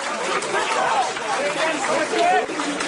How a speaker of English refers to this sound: Hundreds of people chanted the media will not be silenced as police raided Zaman newspaper in Istanbul.